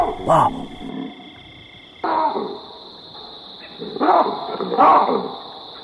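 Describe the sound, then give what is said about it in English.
Loud, harsh barking alarm calls from baboons ring out in four bursts, two close together near the end, over a steady high insect-like drone in the background. “they will be the first things to know if there's a predator in the area. They'll start calling and barking.”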